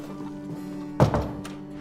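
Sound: door opening and closing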